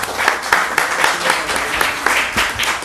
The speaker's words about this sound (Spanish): Muchísimas gracias. Les pido un aplauso para nuestros ponentes.